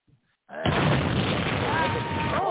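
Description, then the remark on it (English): A loud gunshot sound effect, played after a name is read out, bursts in abruptly after a brief quiet moment, followed by a long, harsh roaring tail that stays loud to the end, with a voice faintly audible underneath. “And maybe a gunshot after everyone.”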